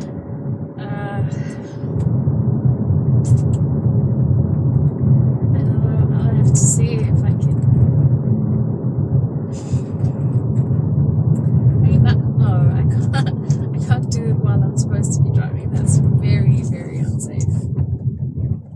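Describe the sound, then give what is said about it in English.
Steady low engine rumble and road noise from inside a car moving slowly in heavy traffic, continuous and fairly loud, with a voice speaking intermittently over it. “I'm busy driving and there's tons of cars around me.”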